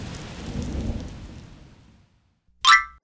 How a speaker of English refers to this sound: All of a sudden, it began to rain on the jellyberry patch.